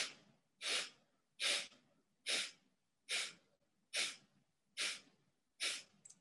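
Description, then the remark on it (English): Eight quick, sharp nasal sniffs in a steady rhythm on an exhale during a breathing meditation exercise, each a short breathy burst, with brief quiet gaps between them and no talking. “Exhale, 8 sniffs.”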